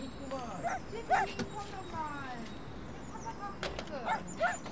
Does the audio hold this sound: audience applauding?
no